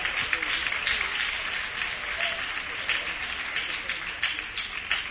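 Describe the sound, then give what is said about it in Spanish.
Steady audience applause for a student of CEIP La Hispanidad called up at a school ceremony, a dense wash of many hands clapping at an even level throughout, with no one speaking over it. “Y otro aplauso también para Álvaro Romero Bautista, del CEIP La Hispanidad, de tercero ESO A.”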